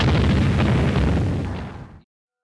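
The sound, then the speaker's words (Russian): A dense, roaring barrage of artillery explosions with heavy low rumble and crackling bursts, loud throughout and fading slightly before stopping abruptly at about two seconds. The artillery fires on fascist forces in Voronezh during the Second World War. “По фашистам огонь!”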